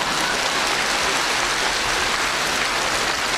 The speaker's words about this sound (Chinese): 鼓掌